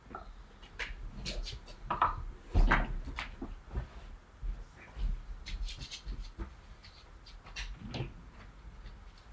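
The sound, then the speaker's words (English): A door is opened to let a dog out, with a cluster of clicks, knocks and a solid thud, followed by scattered handling noises and faint shuffling. “I'm just going to open up the door to let her out.”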